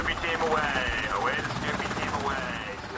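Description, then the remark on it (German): A naval military helicopter of Naval Air Squadron 28 preparing for takeoff from the lead ship of Baltops 23; its rotor churns steadily, a loud rapid thumping over a rising and falling turbine whine as the engine spins up. “dem Führungsschiff von Beltops 23, machen sich die Ghost Riders, die Crew des Hubschrauberseekampfgeschwaders 28, zum Start bereit.”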